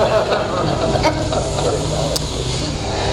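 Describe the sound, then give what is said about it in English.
A lawn mower engine drones steadily throughout, a continuous low rumbling hum with a hissy edge and no breaks, while faint murmuring voices blend into the background. “I think that's the lawn boy.”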